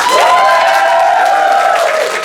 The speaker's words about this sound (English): Now over here on this side, we've got some empty seats out over here, so you guys are going to have to do a much harder job to catch up to the other side here. So let's hear your applause.